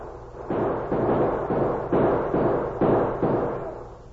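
A burst of gunfire inside a bank, roughly seven muffled shots in quick irregular succession, each booming and ringing out, moderately loud with no voices.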